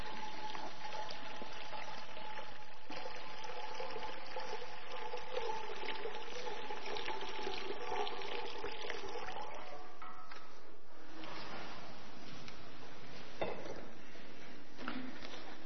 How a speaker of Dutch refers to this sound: En daar hebben we water voor nodig. Dus we schenken u water, jongens en meisjes, dat kunnen jullie ook zien, hier in het doopvont.